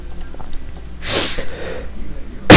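A single harsh, breathy cough from a person with a bad cough, followed by a brief raspy trail and another abrupt burst at the very end, with no talking.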